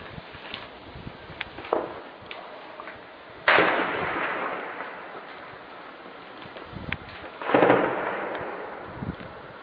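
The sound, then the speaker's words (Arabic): Two heavy blasts boom a few seconds apart, each rolling off into a long echoing rumble, with scattered fainter cracks and thuds around them. Artillery shelling of the Bab Amr district of Homs, Syria, on 13 February 2012, with no voices. “باب عمر 13/2/2012 القصف مستمر على حي باب عمر.”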